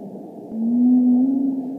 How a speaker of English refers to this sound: the song of a humpback whale. They're among the many species of whale that bask here off the New England coast.